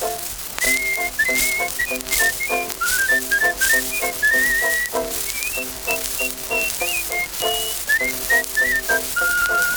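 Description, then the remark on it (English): A person whistles a bright, bouncy melody in short rising and falling phrases, clear, over a steady rhythmic instrumental accompaniment with no voices singing. “He's a knock-kneed, double-jointed, hokey-pokey-moke, and he's happy when he whistles it too.”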